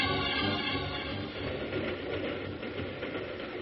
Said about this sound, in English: Hey, the train's slowing down. It's been going slower ever since it turned off the main track.